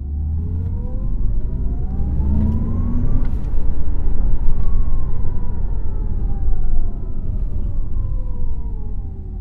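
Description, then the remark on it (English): An electric car's synthetic driving sound in dynamic mode, underlining the car's power up to over 200 km/h: a loud humming tone sweeps upward as if accelerating, then glides slowly back down over a deep, steady rumble. “While it is moderate in efficiency and shuts off around the 60 km per hour mark, the sound in dynamic mode underlines the full dynamics and power of the car, up to over 200 kilometers power.”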